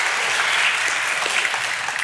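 An audience claps steadily, a dense wash of many hands at an even loudness with no voices over it, holding for the full two seconds.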